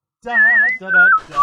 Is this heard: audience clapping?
no